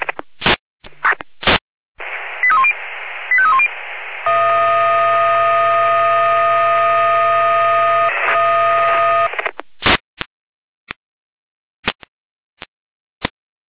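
A fire brigade radio alert for a garden shed fire sounds: clicks and short bursts, a few rising and falling tone chirps, then a long steady multi-tone alarm chord that holds for several seconds before more sharp clicks.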